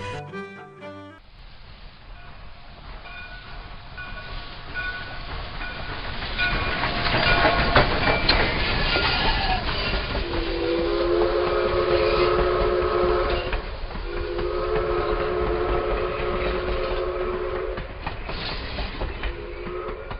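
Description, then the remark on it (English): A train rumbles and clatters along the rails, growing louder, then its whistle sounds in two long, steady blasts over the continuing roar of the wheels. “Dear listeners, if you love trains, and who doesn't? This conversation is for you.”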